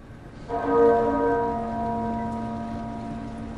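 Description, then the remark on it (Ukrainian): A single muffled church bell toll sounds once and rings on, its deep tone fading slowly over a soft, steady background hiss, accompanying Margaret Thatcher's coffin into St Paul's Cathedral in London at her funeral. No one speaks. “Приглушений дзвін супроводжував труну Маргарет Тетчер в один з найвеличніших соборів у Лондоні – собор Святого Павла.”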